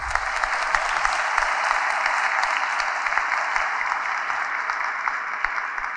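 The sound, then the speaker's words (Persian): Steady audience applause after a doctor's talk, a dense wash of many hands clapping at an even level for several seconds with no voices over it. “فقط یه راه حل داره که ما بشتیم، اونم میزان دستان پرمهرتی که به گوش ما برسه.”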